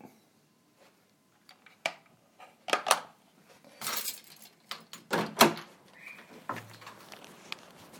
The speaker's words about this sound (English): Hello? Okay, I'll pop the door, mate. There you go.